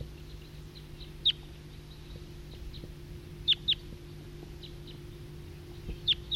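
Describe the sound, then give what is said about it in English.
Short, sharp high-pitched calls from a flock of wild birds ring out at intervals, some in quick pairs, over a low steady hum and faint scattered chirps in the background. “It's a recording, flock of wild birds.”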